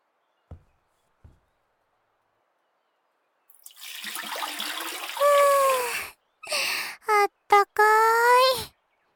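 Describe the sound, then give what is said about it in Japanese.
Two faint taps, then water splashes and sloshes in a foot bath, with a breathy, sighing voice sounding in several short bursts over the swishing water. “もう少し足湯に浸かっていてくださいね。”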